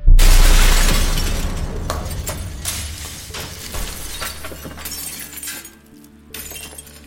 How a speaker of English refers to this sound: In one big motion, she wound up and hurled it at the thing's face. And all at once, every piece of glass in the house shattered.